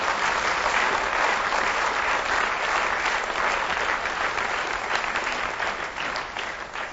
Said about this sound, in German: Applaus hier für die.